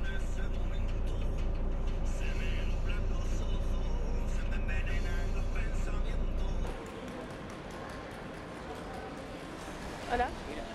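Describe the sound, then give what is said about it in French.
Steady low engine rumble inside a moving bus on a trip to Granada, with a radio voice murmuring faintly underneath. Partway through the rumble drops away, leaving quieter cabin noise and a brief knock near the end. “L'odeur du bus, la radio, mon dos et mon coccyx qui me font mal.”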